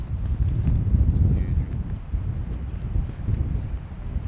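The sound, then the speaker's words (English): A strong gust of wind roars and buffets the microphone, a heavy low rumble that swells early on and keeps blowing steadily to the end, with no talking. “Big gust coming up.”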